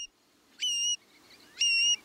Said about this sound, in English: In spring, the male long-billed curlew sings his bubbling song, stitching a zigzag across the sky. Seeing it rise on rapidly beating wings, then glide down, we're witnessing its mating display.